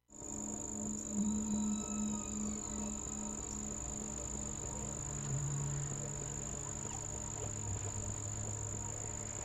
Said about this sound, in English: We're now joined by our friend Henry the Hudson Whale. Welcome back to the show, Henry.